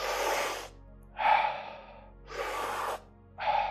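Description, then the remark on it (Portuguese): Four slow, deep breaths alternate between inhaling and exhaling, each a breathy rush lasting about half a second to a second, with no talking. “Para dentro, para fora. Para dentro, para fora. Isso mesmo, encontra o teu ritmo, presta atenção à tua respiração.”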